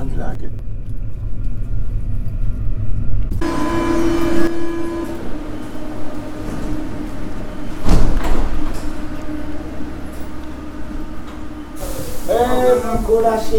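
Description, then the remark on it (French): Steady low rumble of a hot metro carriage with sliding doors in motion. It swells into a louder, brighter roar partway through, with a single heavy thump near the middle and faint voices murmuring underneath. “Il fait chaud dans le métro.”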